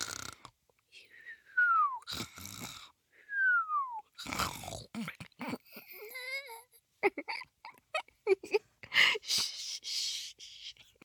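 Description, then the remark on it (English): A person imitates snoring in a cartoonish way: breathy, snorting inhales alternate with falling whistled exhales, repeated twice, followed by wobbly voiced noises and short gasping bursts. “It sounded like you were snoring.”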